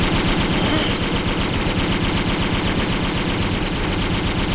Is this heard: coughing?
no